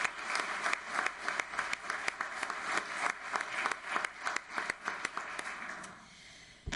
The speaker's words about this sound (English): He just got an honorary degree from the University of Montreal last week, and I think we should applaud that.